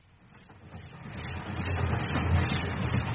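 A train travelling back to Edgestone rumbles along the rails, a steady low roar with rattling texture that swells gradually louder over a few seconds, with no voices.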